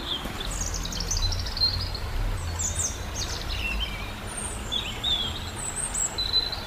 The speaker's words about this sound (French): Avant de continuer sur le Foron et les rivières, on va juste parler du petit oiseau qui chante au-dessus de notre tête, qu'on entend vraiment très bien.